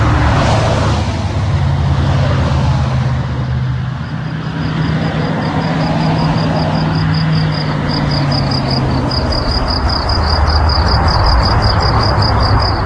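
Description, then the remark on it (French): A truck rumbles loudly and steadily, its deep engine droning throughout, with a faint rapid high-pitched pulsing whine joining in partway through. No one speaks. “Et ça c'est chez Fernand, côté camion.”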